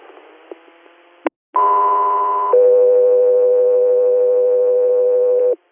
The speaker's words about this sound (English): Got three air, standby for tones.